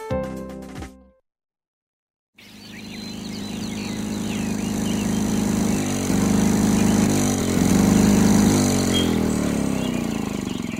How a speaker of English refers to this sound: Everyone, pardon my noisy lawnmower.